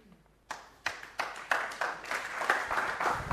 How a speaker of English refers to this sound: Bless you, I hadn't expected applause.